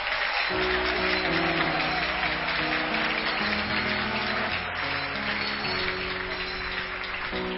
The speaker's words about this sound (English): Oh, let's clap our hands for Jesus.